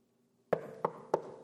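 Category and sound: impact, knocking on a door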